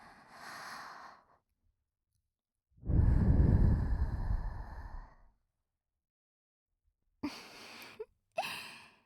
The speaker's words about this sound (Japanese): 少しは満足していただけましたか？こんな近くから吐息をもらうなんて思いもしなかったでしょう。でも、こういうのがくすぐったいんですよね。